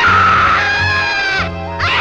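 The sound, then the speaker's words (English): A performer lets out a loud, shrill, sustained scream, briefly dipping in pitch and intensity before surging again, with no other talking, acting out taking off screaming down the street. “I realized that I had murdered it, and I took off screaming down the street.”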